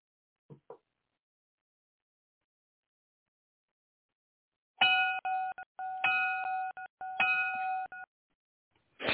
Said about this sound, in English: Okay, the bell's gonna ring.